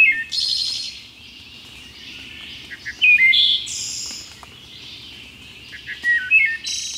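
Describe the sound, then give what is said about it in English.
A wood thrush sings clear, fluting phrases in bursts with short pauses, the notes rising and ringing, set against a soft, steady background hum of the woods. No one speaks. “Some believe the song of the wood thrush to be the most beautiful bird song in North America.”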